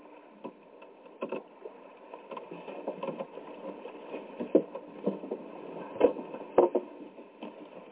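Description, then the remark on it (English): A boat out on the water: a steady, muffled wash of ambient noise with irregular hollow wooden knocks and thumps, a few louder bumps near the end, and no voices. “Because I'm on this boat, my final parable should be about fishing, yes?”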